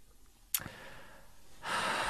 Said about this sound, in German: Ich komme gerade in schwere Schnaufen, nicht?